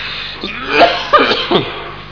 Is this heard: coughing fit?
yes